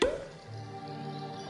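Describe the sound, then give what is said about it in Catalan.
A bottle is uncorked with one sharp pop right at the start, followed by a quiet, steady humming tone that lingers to the end. “Destapa.”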